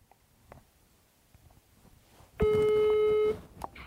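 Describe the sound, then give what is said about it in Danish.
A single steady electronic telephone ringing tone sounds clearly for about a second after quiet background rustling, then cuts off abruptly, as a phone call is being placed. “Så nu ringer jeg lige her.”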